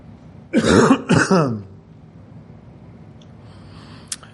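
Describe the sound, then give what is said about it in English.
A loud bout of harsh throat clearing and coughing from a sore, troubled throat, two or three rough bursts in quick succession, followed by quiet background and a faint small click near the end. “This thing with my throat, when I cough so much, it's still very messed up in there.”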